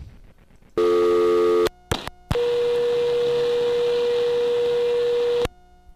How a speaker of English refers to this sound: it's going to come back with something called high tone. 500 hertz